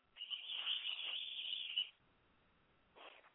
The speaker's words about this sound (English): And we've got a whistle. And that whistle marks the end of the first quarter. So for the first time today, we'll flip ends and do it again.